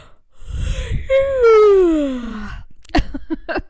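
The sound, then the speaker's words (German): A tired person yawns: a breathy intake swelling into a long, drawn-out vocalized sigh that slides downward in pitch, followed by a few short breaths or murmurs. “Und gefühlt war die Hälfte gähnen und wir sind müde.”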